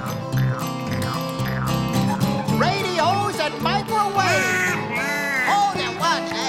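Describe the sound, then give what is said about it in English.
A voice imitates a duck, letting out a string of loud, nasal quacks in quick uneven bursts, rising and falling in pitch over a steady, busy musical backing. “If I don't like what I'm hearing, I quack.”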